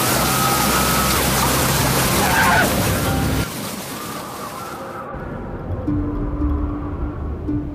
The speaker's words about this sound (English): And then once there's no window in between you and it, the sound amplifies. This is the sound of death coming to take you away in the form of a tornado.